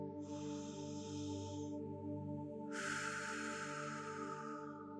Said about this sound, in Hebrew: כן, לשאוף דרך האף ולנשוף ארוכות דרך הפה. ועוד נשימה להרפות את הגוף.